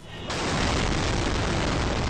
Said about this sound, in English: That's a shaky sort of audio from a cellular phone obtained by the Associated Press. That was the second of two suicide bombs that struck near the fortified Green Zone in Baghdad on Sunday.